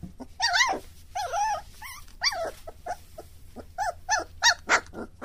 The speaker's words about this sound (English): That's a puppy just a few weeks old wanting to play with her siblings at Paws Care of Montgomery County in Hillsborough.